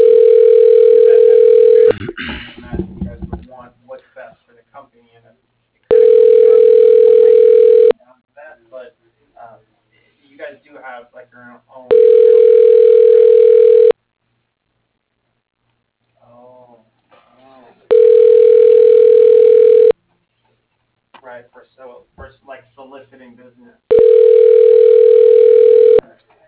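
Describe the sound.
A telephone ringback tone, heard while an automated phone directory dials extension 4086 at McKeetro Metal Manufacturing, rings five times in a steady cadence, each loud, even-pitched burst lasting about two seconds with long pauses between, where faint muffled voices can be heard.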